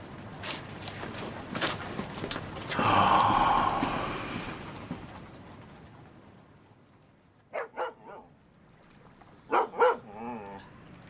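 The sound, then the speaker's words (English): A dog barks at night in two quick pairs, sharp, followed by a short whining yelp, after a stretch of rustling, shuffling noise with no one talking. “Oh, you stupid dog. What's the matter with you? You wake up the ducks.”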